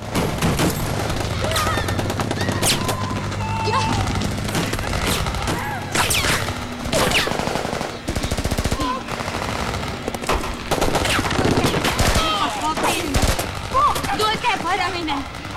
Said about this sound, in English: Hardly looking at him, he shoots the friend in the head. There is sudden gunfire and everyone scatters.